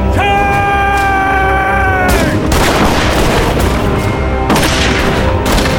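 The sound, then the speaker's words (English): Heavy cannon blasts boom back and forth as Texan cannons and a Mexican cannon exchange fire, with two big bursts standing out over a constant loud din of battle, while drawn-out shouting voices rise and fall. “The twin sisters answered the Mexican cannon shot for shot”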